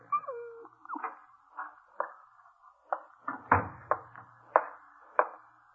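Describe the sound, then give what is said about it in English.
A dog whimpers, a string of short, high whining cries that come in uneven bursts, with no voices present. “this dog doesn't like Mr. Burley's apartment here. I can see from the way he looks”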